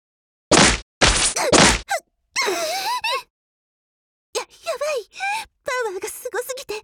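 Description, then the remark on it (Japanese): Three heavy punches from a powerful Abyss land in quick succession on a Radia armored suit, each a loud, booming thwack, followed by a person's strained gasps and pained groans. “こいつすごいパワーだわ。パンチだけでもこんな。”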